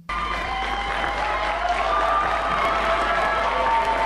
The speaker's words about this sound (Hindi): जैसे ही हिसेन हाबरे को जज ने उम्र कैद की सजा सुनाई, कोर्ट में मौजूद लोग खुशी से चिल्लाने लगे और जोर जोर से तालियां बजाने लगे।